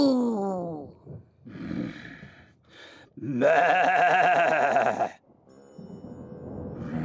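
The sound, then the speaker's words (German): A person exhales in a long, drawn-out, harmonic "moo", imitating a cow as a breathing exercise, loud, lasting about two seconds, with shorter breathy vocal sounds and murmurs before and after. “Wir atmen die Wut jetzt einfach weg, wie eine Kuh. Mu.”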